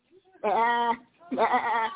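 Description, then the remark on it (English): Two loud, wavering sheep bleats, each lasting about half a second with a short gap between, strongly harmonic and nasal in tone. “He said, so why am I hearing the bleeding of sheep in my ear?”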